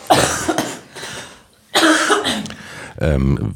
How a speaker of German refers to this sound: Dann werde ich das Geheimnis lüften, aber vorher muss ich nochmal husten, ich kriege es jetzt nicht unterdrückt.